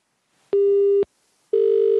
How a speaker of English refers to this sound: Never heard that ringtone. It's like, it's kind of like what the lunk alarm is starting to sound like after a few minutes. Until it dies.